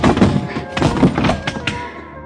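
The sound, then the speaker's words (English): A car door slams with a heavy, dull thunk against a man during a fight, followed by several more muffled thuds and knocks in quick succession, loud. “I finally worked him to the side of the car, managed to half Nelson, and let the car door workers my blackjack.”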